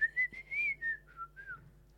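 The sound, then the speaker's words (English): Someone whistles a short melodic tune, a string of clear sustained notes rising and falling in pitch, moderately loud, with no talking over it. “Please whistle loudly.”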